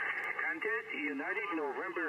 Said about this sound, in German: Morsen muss man übrigens nicht, sondern man spricht ja hier über Kurzwelle, aber es hört sich alles ein bisschen lustig an.